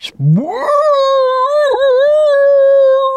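Whale song from a 60-foot whale hanging vertically head down underwater, not moving: a single loud, drawn-out call that sweeps upward from a low groan into a sustained, rich high tone, wavering briefly midway before holding steady, with no other sounds.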